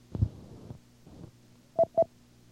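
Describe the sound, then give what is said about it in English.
Two short, distinct telephone keypad beeps ring out in quick succession near the end as star 0 is entered to write a message into memory, preceded by low, muffled thumps and rustling like a handset being handled. “Just as we have done before, we'll enter star 0 to write this message into memory.”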